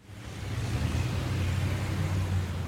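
loud street traffic

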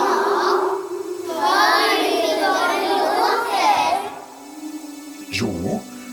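someone crying

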